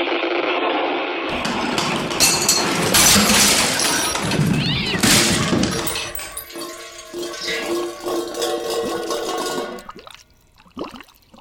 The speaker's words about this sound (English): Now. No. No good. Not quick enough. The ice is closing in. It's crushing the boat.